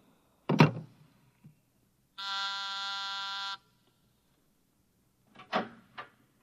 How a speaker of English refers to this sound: You buzzed, Mr. Burkhart?